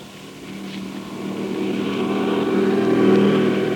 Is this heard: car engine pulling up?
yes